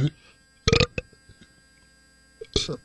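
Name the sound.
deliberate burp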